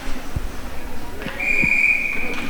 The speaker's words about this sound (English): The referees blow their whistle, and we're about to get underway for the next 5 seconds.